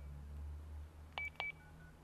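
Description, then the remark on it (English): During a test call on a telephone, two short dialing tones beep in quick succession, clear and fairly loud over a low steady background hum, with no one speaking. “And let me make a test to this phone and see if it's too loud.”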